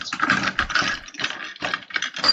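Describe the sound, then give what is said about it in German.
Busy rustling and rummaging through a box, a continuous run of crinkly, clattering bursts as items are shuffled around, with no voices. “Ach krass, guck mal, was ich hier noch in dieser Kiste Hört ihr, habe. wie es raschelt?”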